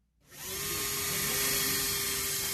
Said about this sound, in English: The metal plaques are small and simple, but each whir of the drill fixes another one in place and another name in history.